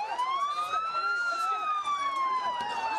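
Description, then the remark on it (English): A loud, wailing emergency siren rises and falls continuously over a busy street in the aftermath of a car bomb attack in the town of Nasiriyah, Dhekar province, Iraq, with overlapping shouts and voices of a crowd in the background, creating a chaotic scene. “The immediate chaotic aftermath of a car bomb attack in the town of Nasiriyah in Dhekar province.”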